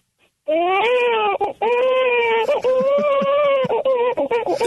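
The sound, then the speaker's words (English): A person's voice imitates a newborn baby crying, a loud, continuous, wavering wail with a strained, nasal tone, broken by brief catches for breath across several seconds. “I could do a newborn baby cry.”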